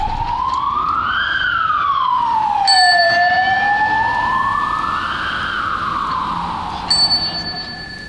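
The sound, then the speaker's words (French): A police siren wails in slow rising and falling sweeps over steady city traffic noise, with a couple of brief bright bell dings cutting through partway along. “seulement si je prends la Roubelière pour ir à la centre-ville à pied, c'est terrible parce que tout d'un coup il y a beaucoup de trafic, des voitures qui roulent très vite, les sirènes de la police qui sont comme un oscillateur, ça me fait bizarre.”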